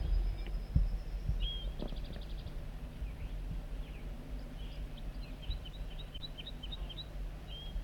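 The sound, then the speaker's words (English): A wild banded male bird sings a series of short, high chirping notes, repeated in quick bursts over a steady low background rumble, with a brief rapid trill early on. “And he escaped or whatever and flew back to the singing wild banded male.”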